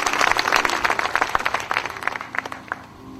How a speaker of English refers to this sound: Praise the Lord. Let us clap to the Lord. Thank you so much.